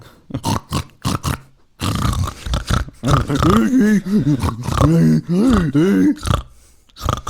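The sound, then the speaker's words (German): Pigs grunt and snort in quick, choppy bursts, then break into longer, wavering squeals and grunts that rise and fall in pitch, loud and steady for several seconds before a few final snorts. “Nein, die Tassen sind vorgerollt und die Schweine sind dahergerollt, weil sie selber die Tassen haben wollten. Und jetzt sind die in deiner Wohnung.”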